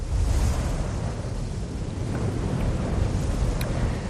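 Rough sea waves churn and surge continuously while strong wind roars across the microphone, a dense, loud, low rumble with no voices, steady throughout.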